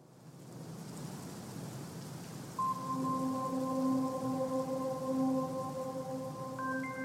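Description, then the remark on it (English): Steady heavy monsoon rain from summer storms hisses throughout in the desert. After a few seconds, sustained synthesized tones come in and stack into a held chord over the rain, with no one speaking. “we are all waiting for those storms to come”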